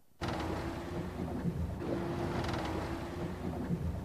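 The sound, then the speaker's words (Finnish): A fishing boat rocks on open sea waves, where it has been for about three hours, with a steady rumble of wind and water washing continuously against the hull and no voices. “No nyt keikotaan täällä aalloilla jo semmoista 3 tuntia ja ei ole vielä ainakaan kalasta merkkiäkään.”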